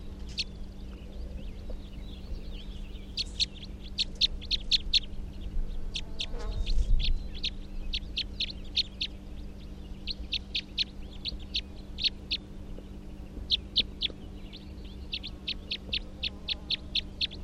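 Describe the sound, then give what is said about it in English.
Captive bird number 340 gives type 3 calls in repeated bursts of quick, high-pitched notes, clustered in rapid rhythmic series that recur throughout, over a steady low hum with no talking. “That's 340, the good type 3.”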